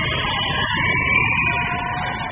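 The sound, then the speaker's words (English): A packed basketball crowd in the Igloo at a DU game roars steadily at full volume during a free throw, trying to fake out the shooter, with shrill sustained screams and whistles riding over the dense wall of yelling for the entire stretch. “And let's listen to this crowd trying to fake out the shot.”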